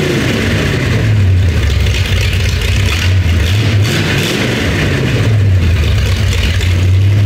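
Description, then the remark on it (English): A car engine revs loudly, its low drone rising and falling in pitch a few times over a steady rumble, with no voices present. “So we'll take you back in time with a little sound, and I'll try to remember all the cars in my life, and we'll see where we go.”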